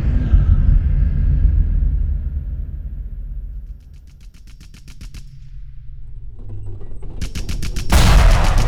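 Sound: artillery shell explosion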